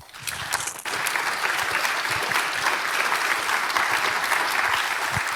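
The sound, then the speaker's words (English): A conference audience applauds the C3 VOC video operation team: a dense, sustained wash of applause that swells quickly after a brief start and holds at an even, fairly loud level throughout. “So a big applause to them.”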